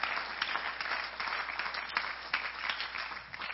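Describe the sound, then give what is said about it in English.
A large audience at a church service applauds a pastor steadily, many hands clapping together in a dense, continuous patter that holds at an even level throughout, with no voices standing out. “We give him another round of applause.”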